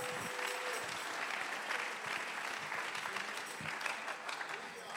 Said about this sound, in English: Somebody clap your hands in the house. Alguien aplaude sus manos.